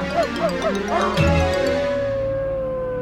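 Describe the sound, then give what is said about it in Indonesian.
Fierce dogs being struck with pieces of wood give a quick run of sharp, rising yelps and barks, then settle into one long, steady howl that holds and slowly fades. No one speaks. “Suara-suara mereka yang gaduh dan lolongan anjing telah membangunkan orang-orang yang menjaga kuburan.”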